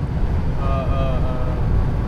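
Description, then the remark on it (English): A Mustang's engine roars in a deep, steady rumble while driving from Kansas City to Omaha, Nebraska, with wind buffeting and a faint whining tone riding over the low drone. “Yeah, and if you're hearing Roaring Engine, I got the fucking premium. Listen to that shit, dudes. Yeah, we're driving around in a Mustang.”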